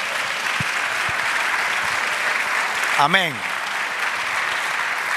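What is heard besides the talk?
audience applauding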